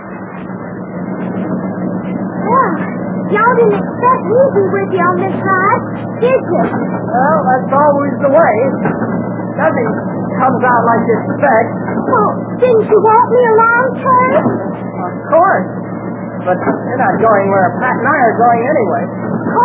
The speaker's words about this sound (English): This truck must have been made before the war. Expect it to fall apart in a minute.